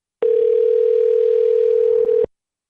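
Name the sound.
telephone dial tone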